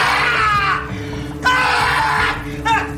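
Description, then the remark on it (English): Actor Stephen Baldwin lets out loud, pained yelping screams in three strained bursts in a film scene where he puts his hand in a vat of acid, the last one short and sharp, with a low steady hum running underneath. “But Stephen Baldwin's, like, yelp when he puts his hand in the vat of acid was priceless.”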